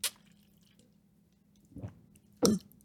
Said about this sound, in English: Okay. I'm going to swallow all my spit. And I'm going to drink water. Okay, sip break.